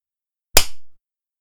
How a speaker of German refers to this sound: Ich klatsch nochmal wegen den Schnitt dann.